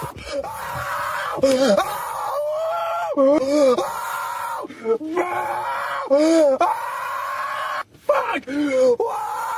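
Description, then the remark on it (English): A man in his car cries out in repeated strained, wailing yells and groans, loud, with short pauses between outbursts over a steady low hum like an engine or car interior. “Like, you're just watching this guy tweaking and screaming in his car.”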